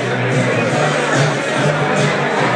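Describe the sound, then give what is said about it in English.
A crowd of people having fun chatting, heard from upstairs above them, a dense, steady wash of overlapping voices with no single speaker standing out, holding an even, fairly loud level throughout. “There's a lot of people having fun chatting.”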